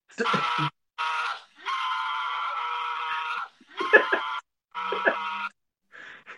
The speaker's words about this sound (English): I can hear the screams. I hear the screams. It's overwhelming, man. It's overwhelming.